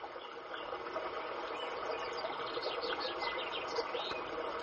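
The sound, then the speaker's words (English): Two birds sing and chirp in quick repeated phrases, partly masked by the steady rush of a waterfall that fills the background throughout. “I hear two different birds.”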